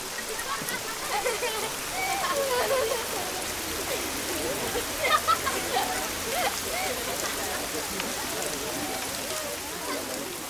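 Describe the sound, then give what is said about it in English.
Steady rain patters down in a dense, hissing wash, with faint murmuring voices and a few brief tonal calls rising over it, moderately loud and continuous throughout. “Look at this rain.”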